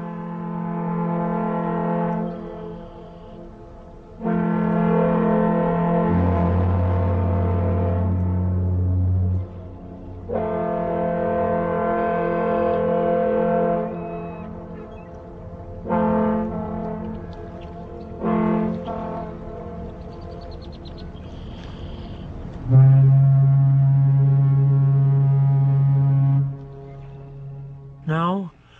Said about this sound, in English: In June of 1963, the melodious sound of a foghorn harmonizes with boat whistles on Lake Michigan, near Sheboygan, Wisconsin.